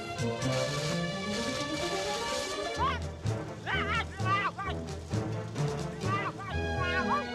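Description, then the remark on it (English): A heavy metal crash rings out as a metal girder lands on 3030's head while townsfolk build a huge metal structure from girders, amid a busy cartoon soundtrack with clanging impacts scattered through lively music and squawky, excited voices. “A metal girder lands on 3030's head.”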